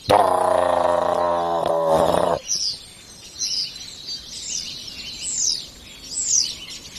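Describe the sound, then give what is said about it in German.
A starling sings overhead: a loud, buzzy harmonic burst for about two seconds, then a run of five high, sweeping whistled notes repeated at a steady, lively pace. “Der Star kommt in Fahrt über uns.”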